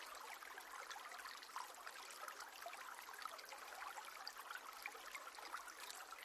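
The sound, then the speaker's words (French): A river murmurs and flows steadily, a continuous bright rush of water with small bubbling ripples, even in level throughout, with no voices present. “Le chant de la rivière ravit vos oreilles et se mêle au gazouillis joyeux des oiseaux.”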